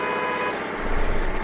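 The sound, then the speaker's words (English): Several car horns blare together in a steady, overlapping honk from irritated drivers stuck in traffic, over the low rumble of idling traffic, loud, with no voices. “Irritated drivers stuck in traffic.”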